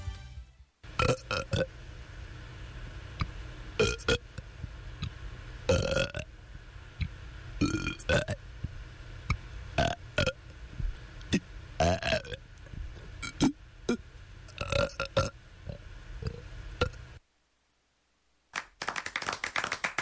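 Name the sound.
burping performance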